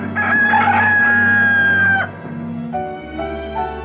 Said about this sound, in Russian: И где-то петухи вдруг возникали. Для меня, скажем, петухи не могли стать привычным звуком, а всегда были каким-то таким экстравагантным и очень редким звуком.